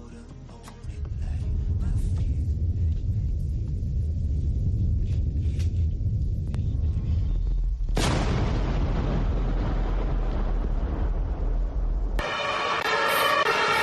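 A deep, muffled rumbling thud caused by a gas leak builds for several seconds, then a sudden huge, loud explosion bursts out, followed by a roaring, crackling aftermath and a bright, ringing tail.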